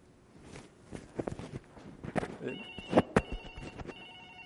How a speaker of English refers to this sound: Excuse me, the bat phone is ringing. It's probably the president.